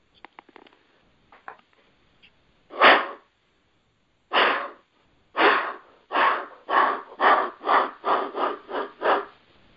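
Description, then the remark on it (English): A deer alarm distress call blown on a call: two loud, breathy snorting blasts, then a quick run of about nine more in a steady rhythm. No one speaks. “But now you add in, after you put the interdigital down, you add the alarm distress. Do you want me to blow that?”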